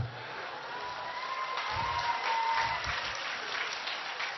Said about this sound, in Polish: Te oklaski to są oklaski dla naszych obiektywnych mamuś.